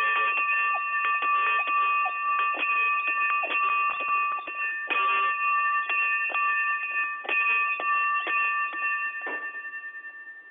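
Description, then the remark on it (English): A bell rings continuously for about ten seconds so equipment on the other end of a phone call can get a reading of its frequency, its clapper rattling rapidly with a steady metallic tone. It sounds thin and tinny, as if heard over a phone line, and slowly fades at the end. “It looks like we may have to ship you out a new bell, because that's definitely not the right frequency.”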